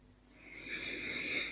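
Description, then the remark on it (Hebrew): A single deep breath drawn in through the nose and mouth by a person with eyes closed, an airy hiss that swells steadily louder over a second and a half, with no talking. “אפשר לקחת נשימה עמוקה,”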